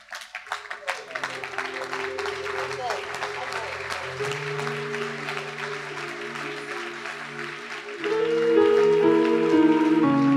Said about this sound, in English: Can you stand to your feet and clap your hands?